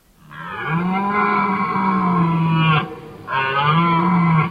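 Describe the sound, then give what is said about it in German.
A red deer stag roars twice during the rut in the Justistal valley above Lake Thun, early in the morning in darkness and thick fog: a long, deep, drawn-out loud bellow, then a brief pause and a shorter second roar, with no one speaking. “Es ist dunkel, dicker Nebel. Man sieht kaum etwas. Man hört nur etwas von den Hirschen.”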